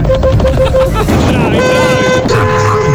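Several car horns, honked by drivers in their cars, honk at once in a loud, continuous blare, with overlapping sustained tones of different pitches shifting over a noisy street background.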